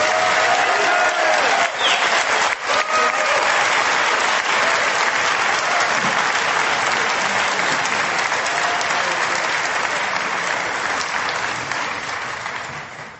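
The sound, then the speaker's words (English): Sustained applause from an audience thanking a speaker, a dense, steady roar of many hands clapping for over ten seconds, staying loud before easing off slightly at the end. “Way to keep clapping.”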